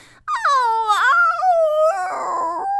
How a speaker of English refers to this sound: What was the howling about? Oh, that. I just missed you so much.